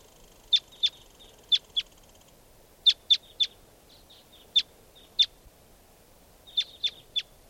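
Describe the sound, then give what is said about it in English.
Wild birds call in sharp, high-pitched chirps, given in short clusters of two or three with brief pauses between, over a faint steady background hum. No one speaks. “And more wild birds are coming around.”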